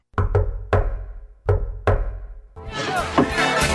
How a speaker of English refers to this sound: I didn't hear the secret knock. I did the secret knock. Of course, it's pretty loud in here. Could you do the secret knock again?